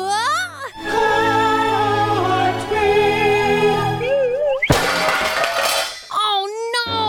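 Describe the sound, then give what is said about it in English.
A child's voice rings out, then a loud metallic crash as someone runs into a science fair diorama of the solar system made entirely of pots and pans, which clatter and bang together for about a second before a voice returns. “I just crashed into my science fair project, a diorama of the solar system, made entirely of pots and pans.”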